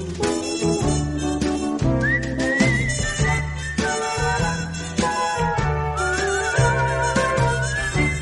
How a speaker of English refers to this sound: I was wondering when we were going to hear that famous … whistle.